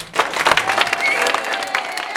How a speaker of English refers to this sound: At this and other meetings about offshore wind, each side tried to clap and howl louder than the other.